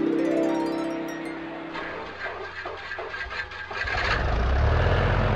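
A motor scooter engine sputters and catches, with a few rough bursts in the middle before settling into a steady, rising low rumble. No one speaks.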